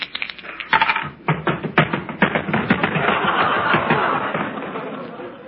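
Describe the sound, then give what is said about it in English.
A pair of dice rattles and clatters in a quick flurry of sharp clicks that blur into a steady dry tumbling sound lasting several seconds. “give me a pair of dice, will you?”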